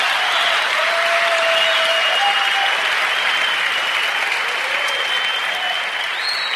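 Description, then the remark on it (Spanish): An audience applauds steadily for several seconds, a dense wash of many hands clapping at an even, fairly loud level, with faint tonal whistles or cheers drifting through it. “Si vas a aplaudir, aplaude.”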